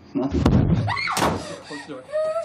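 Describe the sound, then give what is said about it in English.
A door slams shut with a sharp, heavy bang, then a second loud, forceful thud follows a moment later, while voices exclaim and talk in the background. “Close the door.”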